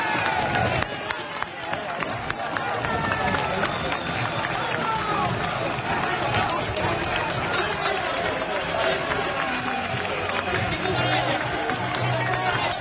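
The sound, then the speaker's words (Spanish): A large crowd of Huelva football fans supporting Recre keeps up a steady, dense roar of cheering and chanting, with scattered clapping and shouts mixed into the continuous wash of noise. “Muy feliz de la gente, muy feliz de la gente de Huelva, que anima con ganas y cara sonriente, porque los jugadores del Recre ya se ven segundo, se ven con fuerza para poder pues pelear ese playoff”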